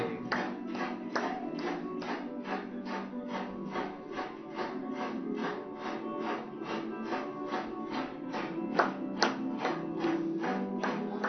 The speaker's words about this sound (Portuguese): Batendo palmas pra ele!